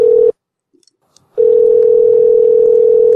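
A steady, mid-pitched telephone ringing tone of an outgoing call sounds loudly, cuts out for about a second of near silence, then resumes as one unbroken hum to the end. The called person's voice mailbox has not been set up. No one speaks.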